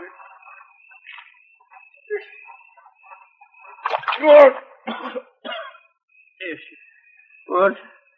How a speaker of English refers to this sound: Scoop some water out of that rain barrel there and throw it on him, huh?